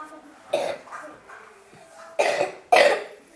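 Three harsh coughs ring out: one single cough, a pause, then two quick coughs in succession, with a faint low murmur in the background between them.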